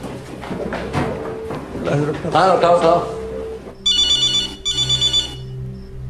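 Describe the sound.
A telephone by a bed rings in two bright, trilling bursts near the end, clear, following a stretch of muffled voices and background movement, as a hand reaches from the bed to the ringing phone.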